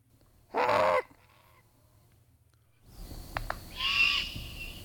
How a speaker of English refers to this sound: But let's play this juvenile great horned owl